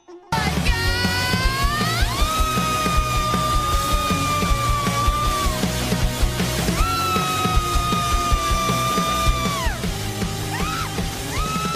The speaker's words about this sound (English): She's screaming, and then all of a sudden, everybody else starts screaming, too. And it's not just screaming like how you'd sing along with the song, you just get into it. It's primal screaming